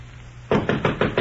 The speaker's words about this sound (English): I was sleeping soundly when Mr. Humphrey knocked on my bedroom door.